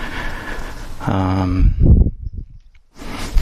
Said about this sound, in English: I just realize every time I'm doing that, I'm breathing down on the microphone with my nose.